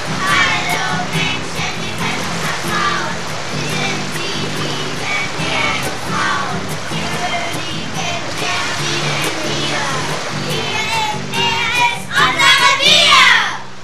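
Mermaids singing a song in the sea: bright, high voices carry a lilting melody over a steady instrumental backing, continuous and fairly loud, swelling near the end with a watery shimmer.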